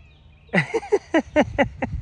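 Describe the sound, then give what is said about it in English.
A wild cat that hangs around a house lets out a quick run of about eight short, chirpy meows, evenly spaced, with a quiet background and no talking. “We have this cat that he's a wild cat that he shows up and hangs around our house.”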